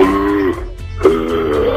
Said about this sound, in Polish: No to było takie ziewanie chyba zmęczonego jeszcze człowieka. Absolutnie proszę ziewać.